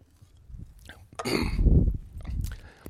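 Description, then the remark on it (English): A person takes a drink with the microphone switched on: a breathy slurp followed by low gulping swallows, moderately loud, with soft mouth noises before and after and no talking. “Sorry if you listen to me drink because the mic's on.”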